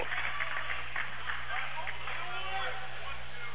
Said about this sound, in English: Rebound, Manzanero, bank shot, good, and she's fouled. You hear the crowd noise.